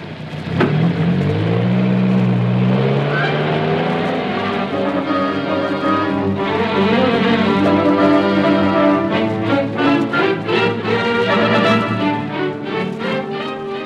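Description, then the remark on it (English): A car engine revs hard and pulls away, its steady loud drone climbing in pitch as it accelerates, with no one speaking over it. “There's a carload of coppers just arrived.”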